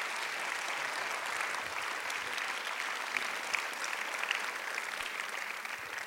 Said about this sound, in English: Thank you very much for the clapping. It means more than the beginning.